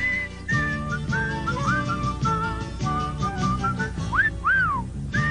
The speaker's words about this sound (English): And now, the most famous Irish folk tune, and thank you for sharing these long pauses with public radio.